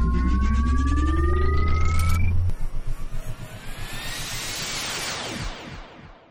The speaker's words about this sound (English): Jessica set our course, gave the word, and I engaged the hyperspace parallax engines.